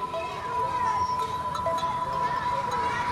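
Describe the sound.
A busy street scene with children playing, their voices calling, laughing and shouting over a steady background hum, with a faint continuous tone running throughout.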